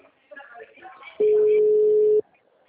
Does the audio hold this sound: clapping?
no